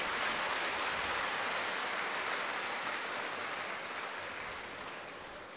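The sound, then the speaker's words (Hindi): An audience claps loudly to welcome Munni Behen ji, steadily and densely, a continuous wash of many hands that holds strong and then gradually tapers off toward the end, with no voices heard. “मुन्नी बहन जी का स्वागत तो करो ताली बजा के जोरदार।”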